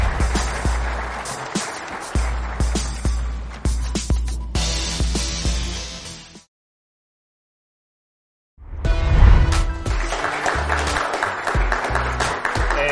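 Loud, steady audience applause on The Mike McCarthy Show as the special guest is introduced, filling the first half, cutting off into a couple of seconds of silence, then resuming just as dense and sustained until the end.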